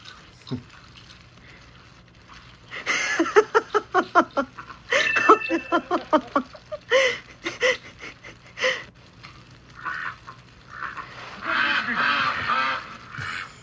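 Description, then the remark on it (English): A duck quacks in a quick, rhythmic series of loud, nasal calls, pausing briefly before more scattered quacks and a few raspy, breathy honks, with no one talking. “The baby boomer duck's like, eh.”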